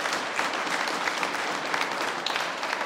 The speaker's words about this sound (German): Einen Applaus für diesen jungen, talentierten Musiker.